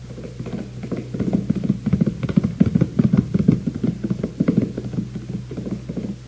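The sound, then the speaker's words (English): A ridden racehorse gallops along a race track, making the turn, hooves pounding in a quick, steady rhythm of dull thuds over a low background rumble, with no voices. “But if you've got a horse that looks legit, catch on. Catch. He's making the turn.”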